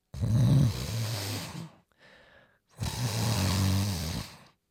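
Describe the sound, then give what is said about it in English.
A monstrous Allosaurus roar: two long, loud, rasping bellows with a deep rumbling growl underneath, split by a short, quieter breathy snarl in between. “Its fearsome roar made Jack jump.”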